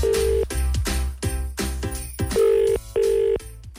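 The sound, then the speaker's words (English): A telephone ringing tone on a call to a phone in Limerick: steady electronic tone bursts repeating in a regular on-off rhythm, loud, with no voices. “It's ringing.”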